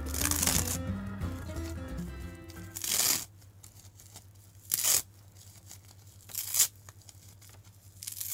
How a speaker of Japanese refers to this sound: なんかいいっすね、なんかヘッドホンつけながら海苔をちぎるの、なんかすごい気持ちいいですね。